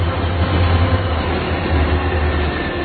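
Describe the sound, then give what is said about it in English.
A train rumbles along the rails, a steady, loud roar with deep low-end drone and gritty wheel noise, holding constant throughout with no voices. “we're not in Zurich anymore. Yeah, we do have trains in this country.”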